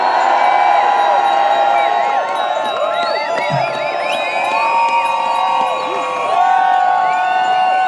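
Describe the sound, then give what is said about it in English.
A large crowd cheers for cycling loudly and continuously, many overlapping voices shouting and whooping with rising and falling pitches, sustained throughout without any pause. “And I want us to cheer for cycling.”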